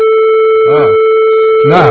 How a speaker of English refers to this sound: And one bit of surprise and fun that we're going to have is calling them live on the air. Do we have a dial tone? Is that a dial tone? That's what they sound like? So I guess I have to dial 9 first.